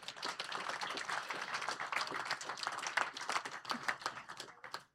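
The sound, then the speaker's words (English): A crowd breaks into sustained applause, giving the Lord a hand clap, many hands clapping in a dense, steady wash that holds for several seconds before fading out at the end. “Can we give the Lord a hand clap?”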